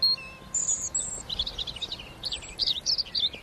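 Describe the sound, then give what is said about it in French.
A European robin sings in the distance at a spot with wild berries, a string of thin, high, liquid phrases and trills rising and falling against a quiet outdoor background, with no one speaking. “Et puis le petit chant merveilleux du rouge-gorge qu'on entend au loin.”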